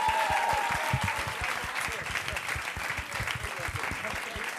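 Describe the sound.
A crowd applauds steadily, dense overlapping claps sustained at an even level throughout, with a faint murmur of voices beneath.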